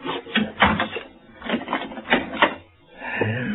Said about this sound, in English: You better close that door and lock it